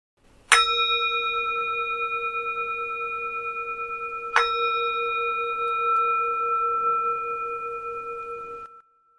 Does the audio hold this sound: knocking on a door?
no